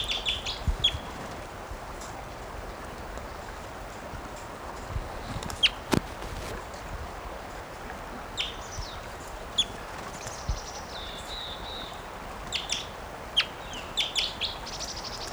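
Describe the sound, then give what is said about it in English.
A bird calls repeatedly with short, sharp chirps and a few longer whistled notes over a steady outdoor hiss, with occasional soft clicks or footsteps. “Recording that bird still.”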